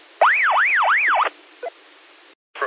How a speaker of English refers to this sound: What was that siren there? Was that you or me? It wasn't me.